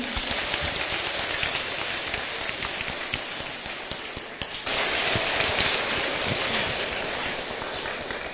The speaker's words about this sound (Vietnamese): Chúng ta hãy cùng dành những tràng pháo tay thật lớn để cùng chào đón chị